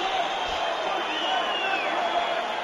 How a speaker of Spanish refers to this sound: Descanso en el Molinón. El primero que alcanza el túnel de vestuarios es Rubi, el entrenador, los jugadores del Sporting, que se están comiendo esta bronca de la grada.